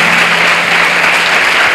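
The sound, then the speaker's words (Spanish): An audience applauds loudly, giving applause to the Lord, many hands clapping in a dense, steady roar that holds at an even level for the full stretch, with no voices rising above it. “Tírale ese aplauso al Señor, porque Él te está hablando esta noche.”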